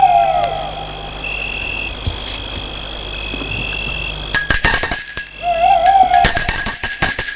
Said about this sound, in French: En pleine nuit. Ça semblait être une vieille maison cossue, avec des escaliers pour monter sur la terrasse où se trouve la porte d'entrée de la maison. Ils sortent de voiture. Les deux hommes vont sonner à la porte de la maison.